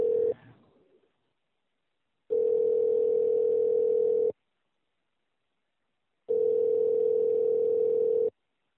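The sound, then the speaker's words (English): A steady telephone line tone sounds in two long, evenly spaced bursts of about two seconds each, separated by silence, loud and clear with no voices, following a brief fading sound at the start, as a phone call is placed to journalist Sherwood Ross. “will try and get Sherwood on the Ross on the phone, even though we're 5 minutes early.”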